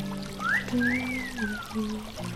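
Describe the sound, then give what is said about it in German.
Water trickles and pours as a woman sets her feet into the water to bathe, with a few rising, gurgling tones over a low steady hum, continuing without pause for a couple of seconds. No one speaks. “Gerade will sie die Füße ins Wasser setzen.”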